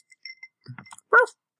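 A dog named Pebbles gives one short, sharp bark, preceded by a few faint clinks and small sounds in an otherwise quiet setting.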